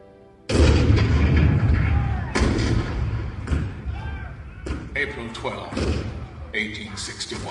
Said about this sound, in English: April 12, 1861, Fort Sumter. The cannon spoke for war, bitter, violent, and devastating.